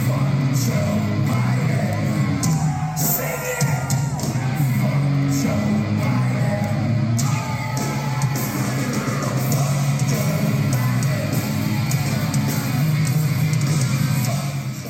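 A concert crowd yells and shouts "fuck Joe Biden" loudly and without pause through a huge PA, many overlapping voices forming a dense, steady roar, with a low sustained drone running underneath throughout.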